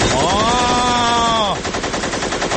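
A voice imitates machine gun fire as war sounds, first a sustained whining tone, then a loud, continuous rapid rattle of shots that fills the rest of the short clip, unbroken.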